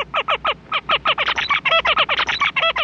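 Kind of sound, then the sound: bird, male zebra finch song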